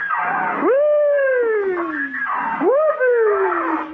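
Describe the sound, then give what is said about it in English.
A squeaky door swings twice, each time giving a loud, drawn-out creaking squeal that jumps up in pitch and then slowly slides back down, with no voices. “Squeaky door.”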